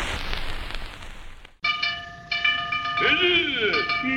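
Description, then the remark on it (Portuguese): A tram rumbles and clatters past, then after a brief break its bell rings out in sustained, bright metallic tones that waver over the continuing rail noise. “Olha, parça, lá se posso sair da frente que eu quero levar o bonde.”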